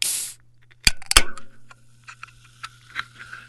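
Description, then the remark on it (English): A seltzer can opening: a brief hiss, then a sharp click and a louder crack of the tab, followed by soft, scattered fizzing crackles over a low steady hum. “For me, it was a seltzer.”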